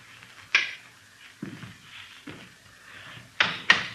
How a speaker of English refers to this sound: Go ahead, open the door. Go ahead.